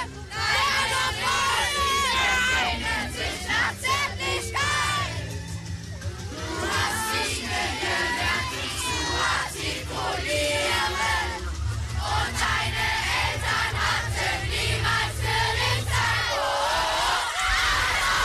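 A large crowd of schoolchildren of the Carolus-Magnus-Gymnasium in Lübach-Palenberg sings and shouts together outdoors during the long break, at an action against the far right, loud and unbroken for the whole stretch, voices rising and falling in a chanting rhythm with yells mixed in.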